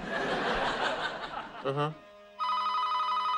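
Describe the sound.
A burst of audience laughter fades and a brief voice sounds, then a telephone starts ringing with a steady, bright electronic tone that holds loudly to the end; it is the phone that Leonard answers.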